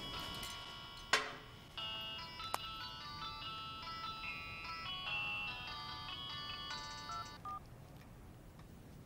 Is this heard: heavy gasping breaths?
no